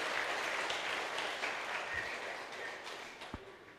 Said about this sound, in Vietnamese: Hãy dành một tràng vỗ tay thật lớn.